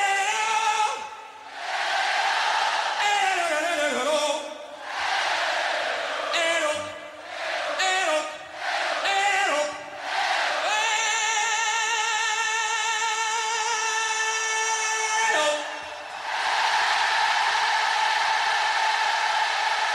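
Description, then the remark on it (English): At a concert, a huge stadium crowd repeats back short sung vocal warm-up phrases yelled by the singer in call-and-response, the exchanges coming in quick bursts, then one long sustained note held by thousands of voices, loud and echoing. “broke out into his famous call and response, where he would yell his warm-up techniques to the crowd and they would repeat.”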